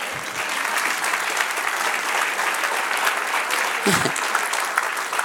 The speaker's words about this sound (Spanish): Den un aplauso al que vive.